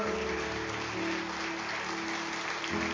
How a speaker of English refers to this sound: In Jesus' name we pray. And everybody said a good amen. Give Lord a good clap offering this morning, would you?